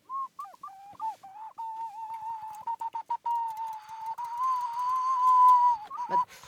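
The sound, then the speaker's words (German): A water whistle imitating a bird in China warbles, starting with short chirpy trills, then holding a long, steady, bubbling birdlike tone that ends with a quick descending flutter. “Das war jetzt ein Vogel in China. Was hast du da? Wasserpfeifen.”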